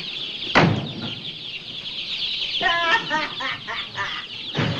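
A group of chickens in boxes clucks steadily, with a burst of rapid, overlapping clucks in the middle and a couple of dull knocks at the start and end.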